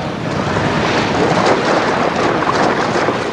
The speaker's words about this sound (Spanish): Los Uruk-hai atraviesan el torrente de agua liberado por la explosión.